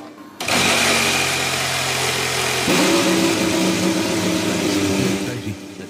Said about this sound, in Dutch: En dan wordt die motor van de nieuwe Formule 1-auto gestart. En dat de beelden daarvan die zijn op Twitter nu te zien.